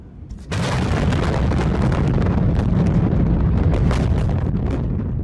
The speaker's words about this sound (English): Two massive blasts followed, the second reportedly as powerful as 21 tons of dynamite. The explosions were felt across the city.